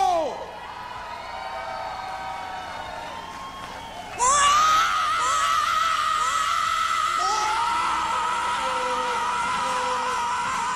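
A huge crowd at the Woodstock 1994 festival in the United States screams and cheers for an artist in a continuous roar, with high whoops and yells rising above it. The noise swells suddenly louder partway through and stays intense.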